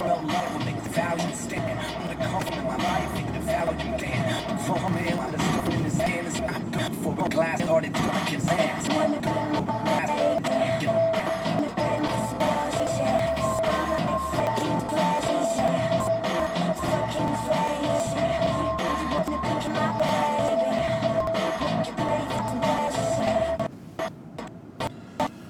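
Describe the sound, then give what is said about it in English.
A deep, steady engine rumble from a large truck, droning continuously from inside a moving car trying to get around it for about twenty-three seconds before dropping away near the end. “All right, big truck, can I get around you?”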